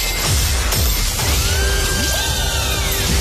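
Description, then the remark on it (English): A loud radio station contest alarm, the payday alarm, sound effect: a dense clatter of ratcheting, crashing mechanical noise with eerie sliding tones that swoop up and down, like a funfair ghost train, with no voices. “If you're new to the game, if you're new to the station, not 100% sure what you're listening out for, this is how the alarm starts.”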